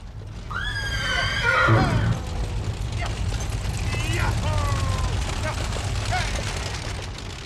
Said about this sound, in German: Anstatt Autos waren da nur Wagen mit Pferden.